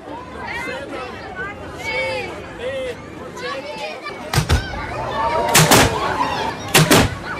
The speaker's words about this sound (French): C'est une tradition. Comme tous les soirs de Ramadan à Sarajevo, ce coup de canon annonce la rupture du jeûne pour les musulmans pratiquants.